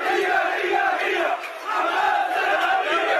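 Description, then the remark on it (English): A large crowd of protesters marching down a street in Gaza chants loudly in unison against Hamas, many voices blending into a steady roar of shouted phrases such as 'Hamas are terrorists' and 'Out, out, out, Hamas get out,' with a brief pause before the chant picks up again. “Crowds marched down a street chanting, "Hamas are terrorists."”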